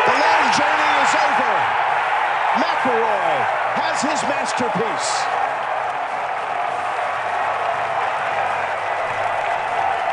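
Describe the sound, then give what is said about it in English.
A loud crowd roars and cheers in a steady, dense wash of noise for about ten seconds, with rising and falling shouts standing out during the first half. “That's a good crowd pop, though, too. It's a great crowd pop.”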